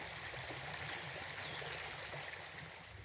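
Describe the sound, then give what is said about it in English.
Sucker Brook flows steadily at the Hubbardton battlefield, its water rushing and burbling in a continuous wash of sound with no voices present. “An old friend of mine, Jane Curtis, who used to do Across the Fences, told me once that this was the ghostliest battlefield she had ever seen, that part of Hubbardton here along Sucker Brook.”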